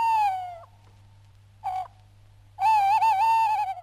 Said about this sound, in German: Das Geräusch hier stammt von einem Waldkützli. Der Waldkutz ist die Eulenart, die man in den Baselbieter Wäldern heute noch am ehesten antreffen kann.